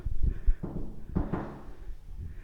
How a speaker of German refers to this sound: Klopfen vorher, ne? Also klopfen.